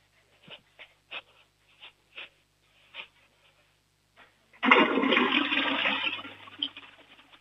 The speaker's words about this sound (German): Das war eine volllaute Klospülung